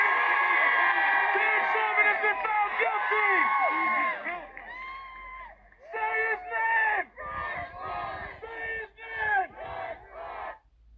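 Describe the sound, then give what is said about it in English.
A large crowd outside the courthouse in Minneapolis, US, cheers and shouts loudly at the guilty verdict against a former police officer over George Floyd's death, a sustained roar of voices at first, then breaking into rhythmic chanting bursts with yells in a repeated pattern. “Last night's verdict led to this reaction from crowds outside the courthouse.”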